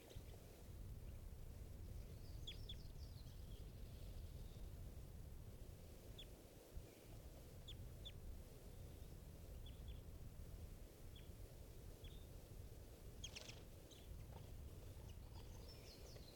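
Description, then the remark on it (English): An adult wild bird gives a series of short, high chirps at irregular intervals, sounding thin and fairly faint over a steady low rumble of background noise. No one speaks. “This is an adult bird.”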